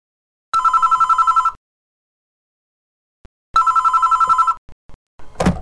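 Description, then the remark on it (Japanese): A telephone rings in two long, trilling bursts about three seconds apart, loud, followed by a brief clatter like the handset being picked up. “男の人と女の人が電話をしています。”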